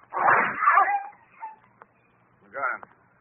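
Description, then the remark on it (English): A dog gives a few high whining yelps: a long strained cry first, then a short whimper and one more yelp after a brief pause. “Reckon that dog won't attack anyone else.”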